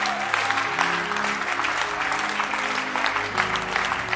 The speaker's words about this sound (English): You can now clap your hands.